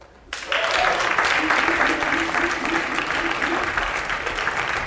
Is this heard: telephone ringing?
no